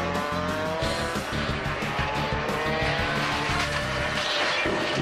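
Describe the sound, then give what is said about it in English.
A motorcycle engine revs hard on a track and climbs through its gears, a loud, continuous high-pitched whine that rises and shifts as it accelerates, steady with no talking. “Motorcycle looks like a lot of fun, but it can also be dangerous.”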